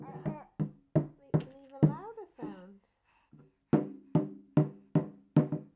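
A child bangs on a drum in steady, ringing strikes, a run of five beats, a short vocal sound and pause, then another run of five even hits.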